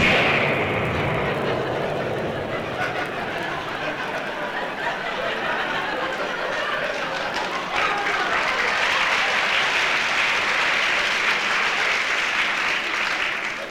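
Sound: vocal imitation of explosions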